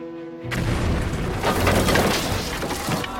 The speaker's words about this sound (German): Im Jahr 1858 explodieren auf dem Raddampfer Pennsylvania die Dampfkessel.